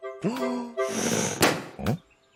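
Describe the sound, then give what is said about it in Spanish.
A voice imitates a balloon being blown up: strained humming, then a long breathy rush of air, ending in a single sharp pop, followed by a short vocal grunt. “explotó porque era demasiado grande y fuerte.”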